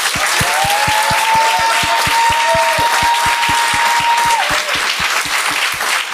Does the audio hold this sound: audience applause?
yes